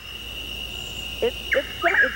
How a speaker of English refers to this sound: I listened to Chuckwill. I had listened to the difference between the two, but I'm pretty sure it's a whippoorwill.